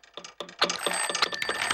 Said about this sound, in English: Must you be forever dialing that phone?